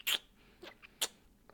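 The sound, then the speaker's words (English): Wet kissing sounds, two sharp smacks about a second apart with a few softer lip noises between them, quiet with no voices. “suddenly when I kiss you, my head is spinning.”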